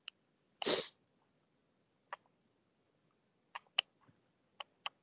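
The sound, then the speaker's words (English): A single short, sharp sneeze bursts out near the start, followed by a scattering of faint clicks and ticks in otherwise quiet surroundings with no talking. “Bless you.”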